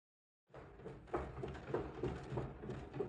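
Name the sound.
front door being opened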